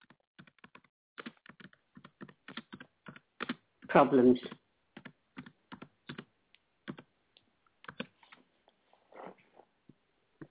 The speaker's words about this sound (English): I'm half logged into this server on Safari, but it's really acting up, so I'm struggling today. Right. I'm just typing in there. Please bear with me.